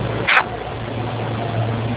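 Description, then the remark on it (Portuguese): An egg vendor's truck idles or rolls by outside, its steady low engine hum muffled, with a brief brighter clatter near the start and no voices. “É o carro do ovo.”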